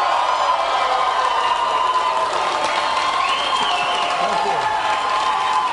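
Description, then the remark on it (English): A large crowd cheers and applauds steadily and loudly, a dense wash of clapping with scattered shouts and whoops rising over it, sustained without a break, as a candidate announces a run for president of the United States. “I bet not more than 3% of the people cheering will vote for him in the primaries.”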